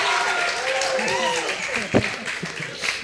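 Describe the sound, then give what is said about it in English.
A burst of hand clapping runs steadily throughout, mixed with overlapping voices and a sharper, louder clap near the middle. “Are you clapping for America?”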